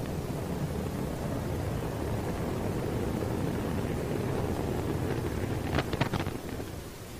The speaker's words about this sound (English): And that is the point on the 28th of October. The unmanned Antares rocket blew up just a few seconds after leaving the launch pad with supplies for the International Space Station.